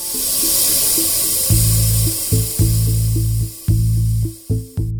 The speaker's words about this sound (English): there is actual video footage taken with a special filter that clearly reveals this particular abandoned well venting gas. And Ervolina says when nearby horizontal wells are being fracked, the well hiss is louder.